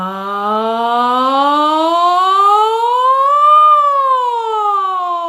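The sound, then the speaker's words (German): In a vocal warm-up exercise, a single sustained voice sings on the word "Ja" after a deep belly breath, sliding smoothly upward from low in pitch, peaking, then gliding back down like a siren; the tone is steady and fairly loud, with no other sounds. “Ich atme tief in den Bauch und dann auf einem Ja setze ich unten an und gehe nach oben und wieder zurück.”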